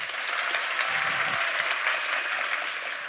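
An audience at the FameLab 2017 final in Padova claps in a test round for an applause meter, a dense, steady burst of applause that holds at an even, fairly loud level for about three seconds, with no voices standing out.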